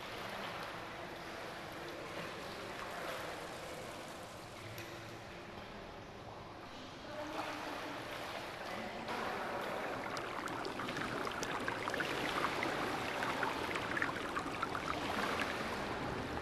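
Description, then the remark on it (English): Steady bubbling and churning water from many ornate marble pools full of steaming water in a great circular room, a dense continuous wash with small pops and gurgles that thicken toward the end, with no voices. “On the other side of the shower, there is a great circular room where many ornate marble pools are full of bubbling, steaming water.”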